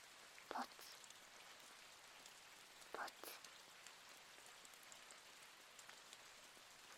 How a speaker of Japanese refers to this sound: 止まないね。でも雨の音が気持ちいい。その音を聞くだけで体がリラックスできる。ポツポツ。